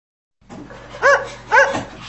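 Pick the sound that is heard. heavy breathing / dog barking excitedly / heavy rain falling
dog barking excitedly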